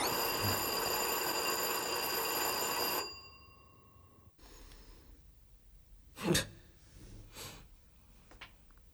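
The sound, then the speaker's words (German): A doorbell at an apartment door, rung for a second time, rings loudly and continuously for about three seconds, then cuts off, leaving quiet with a few soft breaths and sniffs. “Mal klingel noch mal.”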